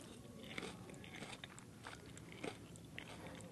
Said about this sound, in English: All right, I'll try one. Here we go, eating a cicada.